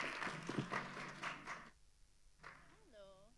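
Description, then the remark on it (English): An audience applauds a speaker from the Electronic Frontier Foundation in a dense burst of clapping for under two seconds, then it cuts off into near silence before a single voice starts speaking. “A round of applause.”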